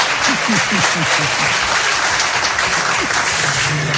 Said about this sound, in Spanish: Y digo, a ver, que se note, ¿quiénes son los de Córdoba? Un aplauso, ¿no? A ver, por lo menos, un momento de ruido, ¿no? ¡Opa!